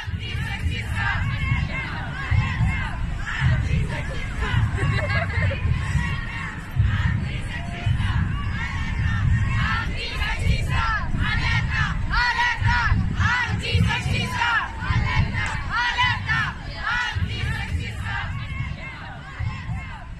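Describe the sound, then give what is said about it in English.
A packed crowd in a large public space roars continuously, with many voices shouting and calling over a dense, steady wall of babble that stays loud throughout. “Imagine this space. It's large and it's full of people. In fact, it's packed.”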